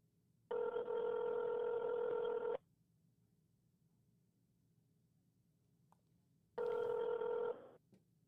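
A phone ringback tone from calling a funny phone number found on Google sounds twice, a steady two-second ring, a long silent pause, then a second ring that starts again, clear over faint background hiss.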